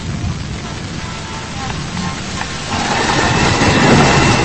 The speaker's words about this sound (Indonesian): Suara hujan di luar sana menghantam asbes yang menjadi atap bangunan ini.